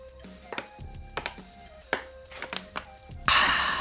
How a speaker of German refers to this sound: Ich muss mal ganz kurz einen Schluck Wasser nehmen, Leute, warte.